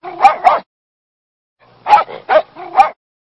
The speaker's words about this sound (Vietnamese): Sau khi sủa hai tiếng to và rõ, nó lại sủa ba tiếng nữa nhỏ hơn, đúng là 2:03.